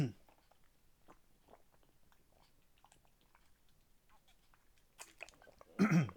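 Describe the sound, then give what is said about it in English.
Someone drinking water: faint wet clicks and small mouth sounds throughout, followed by a couple of louder gulping, splashy bursts near the end, with no talking. “But anywho, let me get some water because my voice sounds like really, really weird.”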